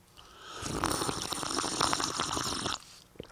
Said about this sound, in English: I got to take a sip of water, so just hold on a second.